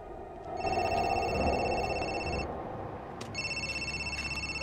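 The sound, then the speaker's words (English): A phone rings twice with a bright, electronic trilling tone, each ring lasting a couple of seconds with a short pause between, over a steady background hum, as Mr. Bennett, pacing along a walkway, receives a phone call. “Mr. Bennett is pacing along a walkway when he receives a phone call.”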